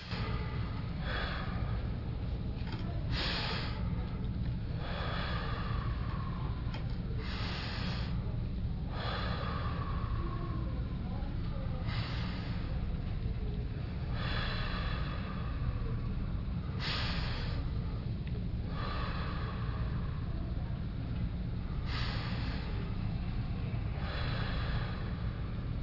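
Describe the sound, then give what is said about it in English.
Deep, forceful breathing during a breathing exercise repeats in a steady rhythm, one hard breath every couple of seconds, loud over a constant low rumble, with no talking. “If you get dizzy in breathing, well then don't breathe so hard, but breathe as much as you can.”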